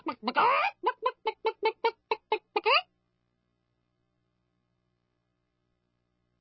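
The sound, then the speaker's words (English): A duck quacks loudly in a quick run of about ten nasal calls, played as a soundbite, then the sound cuts off abruptly by mishap and silence follows. “Was that all of the quacker there, Frank?”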